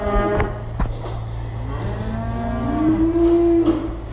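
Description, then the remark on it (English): Holstein dairy cows mooing at a family dairy farm of about 2,000 milking cows near St. Paul, surrounded by two large fires, a low steady lowing under a long, loud, rising moo that swells near the end, with a few short knocks early on and no talking. “he runs about 2,000 Holstein milking cows at the family farm, which is surrounded by two large fires.”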